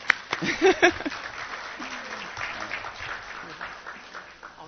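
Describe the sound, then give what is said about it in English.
An audience breaks into applause for a reported 93% result, a dense, steady patter of many hands clapping that starts with a brief burst of voices and whoops, then gradually thins and fades over a few seconds. “So can I get an applause for 93%?”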